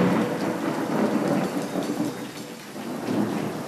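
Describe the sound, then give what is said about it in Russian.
A thunderstorm sound made on stage with electronic effects: steady, dense rain hissing continuously, with low rolling thunder rumbling underneath throughout. Fairly loud, with no voices. “В Москве прошла гроза только что.”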